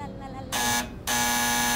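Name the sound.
doorbell ringing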